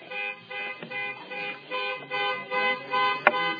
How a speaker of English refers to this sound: I sure hope that's not mine. Minor delay because of a car honking right outside the window.